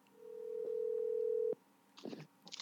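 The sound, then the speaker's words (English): A telephone ringing tone sounds once as a call is placed to get a guest on the phone live on air: a single steady electronic hum lasting just over a second, followed by quiet and a couple of brief muffled noises. “Ladies and gentlemen, we're going to try to get him on the phone right now.”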